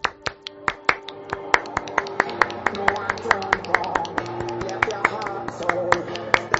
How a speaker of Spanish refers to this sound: Pero si tiene manos libres, lo que hay que hacer es poner una música de palmas. Y ya despedimos por ahí.